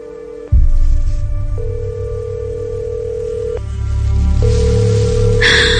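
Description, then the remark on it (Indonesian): A steady electronic phone tone from a mobile phone call hums over low background rumble, shifting slightly in pitch as it repeats. The call keeps ringing without being picked up, and a brief hiss comes at the end. “Aduh, teleponku tidak diangkat.”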